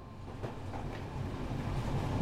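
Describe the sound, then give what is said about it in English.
A train rumbles steadily along the rails, with a couple of faint clickety-clack beats rising out of the continuous low roar. No voices. “You have to get on a train to London right away.”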